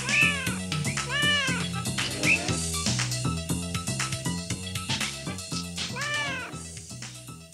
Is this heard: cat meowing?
yes